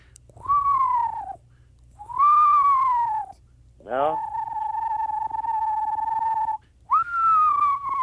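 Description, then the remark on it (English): Someone whistles an imitation of a screech owl's whistling whinny: four wavering, falling whistled phrases, one opening with a quick quavering trill before a long held tone. A single brief spoken word is heard. “The screech owl makes a whistling whinny. Let me try to do that for you.”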